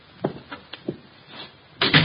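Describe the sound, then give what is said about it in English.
The door of Room 304 at the Paul Hotel opens: a few quick latch clicks and knocks, then a louder, rushing scrape as it swings. No one speaks. “The door's open.”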